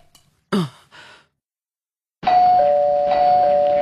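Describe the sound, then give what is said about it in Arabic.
A breathy sigh, then after a pause a loud electronic doorbell sounds as neighbours ring at the door of a home: a sustained higher tone quickly joined by a slightly lower one, both ringing steadily to the end. “ترن ترن ترن ترن. هل نجلس خلف الباب؟”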